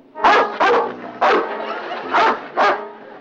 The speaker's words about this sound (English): Well, aren't you nice, big doggy? What are you doing on this ship?